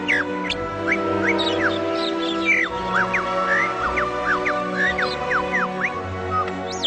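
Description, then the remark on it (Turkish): Rapid, high bird song made of quick rising chirps and whistles, a bird voicing two different notes at once through its syrinx, several overlapping at once, steady over a low continuous background hum. “Bu durum, kuşun aynı anda iki farklı notayı seslendirebilmesini, hatta kendisiyle düet yapabilmesini mümkün kılar.”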